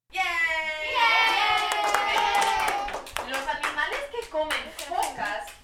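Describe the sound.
A group of children cheers together in a sustained, high-pitched chorus of shouts, then breaks into scattered, rapid clapping mixed with excited voices.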